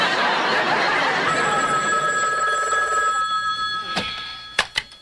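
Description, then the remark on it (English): A telephone rings with a steady, high, bright electronic tone that holds for a few seconds, then fades and is followed by a few sharp clicks. “I have told you every time you have called, this is not Tidewater Savings Bank.”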